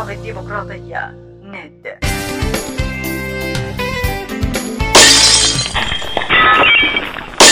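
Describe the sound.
After a couple of seconds of voices, loud crashing and shattering of breaking dishes erupts, a dense, continuous clatter of ceramic smashing that grows even harsher and brighter toward the end.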